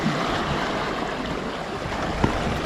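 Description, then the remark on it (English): Lake waves wash steadily against a rocky shore in a continuous rush of water, with one brief louder splash near the end and no voices. “Look at that. The waves on a lake. Almost feels like the ocean.”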